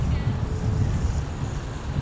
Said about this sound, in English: Kind of windy. Walking along the driveway.